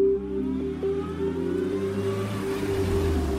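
A car engine hums steadily, a low droning tone with a faint whine above it, as a car drives up and stops beside a parked grey car. No one speaks.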